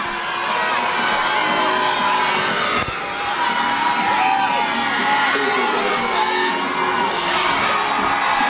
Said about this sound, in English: Here comes Josh Allen through the tunnel right now, Mitch Trubisky. I'm gonna put the microphone out so you can hear this live reaction from the crowd right now and the kids. Here we go.